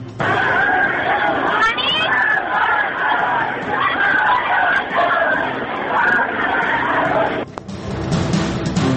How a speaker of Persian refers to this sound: و مرغ مردم را به خیابان کشاند. تجمع مردم نیشابور.